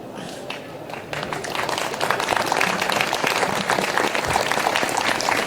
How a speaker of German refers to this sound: Fällt es euch schwer, da zu klatschen?